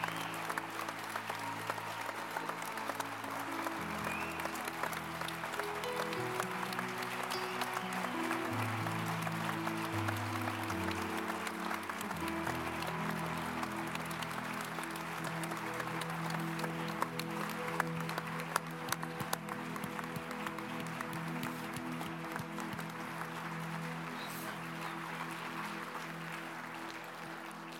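A large church audience claps steadily for nearly half a minute, a dense, continuous wash of applause with sustained musical chords playing softly underneath.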